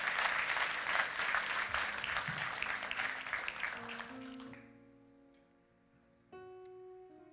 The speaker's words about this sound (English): If you got it, give the Lord a great big hand clap. Amen.